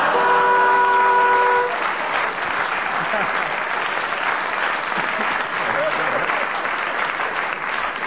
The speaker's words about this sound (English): Just found some of the swanee whistle.